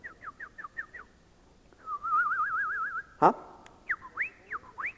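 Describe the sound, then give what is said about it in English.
Clear, bright birdsong in varied phrases: a run of quick descending whistles, a warbling trill, then rising chirps. Fairly loud, with quiet outdoor air behind and no talking. “And there's birds out there.”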